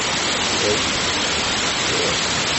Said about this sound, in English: Oh, really? The water's coming in this way. It's impressive.